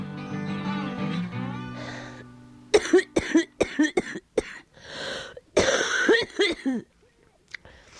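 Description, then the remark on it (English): A strained wheezing breath from a person who has trouble breathing gives way to a rapid series of harsh, forceful coughs, a dozen or so bursts in quick succession before trailing off into quiet. “It's funny, sometimes I cough so hard that I can see stars.”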